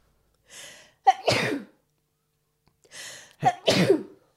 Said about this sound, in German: Oh, dreimal, das ist immer gefährlich. Dann ist es immer gefährlich bei dir. Ich glaube, du niest gefühlt in 90% der Fälle mindestens dreimal. Nee, dreimal bedeutet, es kommt was.